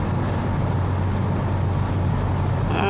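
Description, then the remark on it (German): A BMW 116d car, driven by a driver from Paderborn, drives past; its engine and road rumble drone steadily with a low hum, holding an even, fairly loud level throughout, with no voices. “Ach, du besoffener Paderborner BMW-Fahrer. Ein 1.16D, sowas lächerliches von Auto.”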